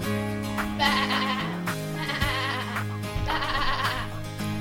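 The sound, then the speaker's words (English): A person outdoors imitates a sheep, letting out three drawn-out, quavering bleats in a row, fairly loud, with brief pauses between them and no other talking. “what are you doing out here making a noise like a sheep?”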